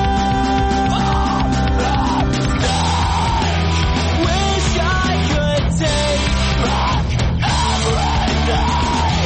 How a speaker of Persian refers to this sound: و البته یکی دیگه از این روش ها هم ادای آواز این موسیقی به شکل جیغ و داد یا فریاد بود، چیزی باز هم شبیه آواز همین آهنگی که حالا و زیر صدای من میشنوید.